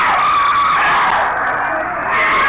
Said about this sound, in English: They are screaming because they have to go, and they don't want to go. They don't want to lose their victims.